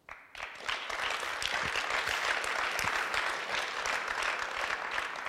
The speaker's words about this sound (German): Und wenn Sie jetzt müde geklatscht sind